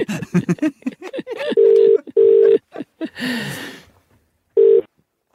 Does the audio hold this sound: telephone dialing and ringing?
yes